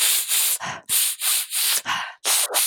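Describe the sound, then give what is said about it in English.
A rapid series of about eight harsh, hissy air-sucking slurps made while taking a sip of olive oil to taste it, repeating in a steady pumping rhythm with brief gaps, breathy and fairly loud with no talking. “So this is the sound that you have to make when you take a sip of olive oil.”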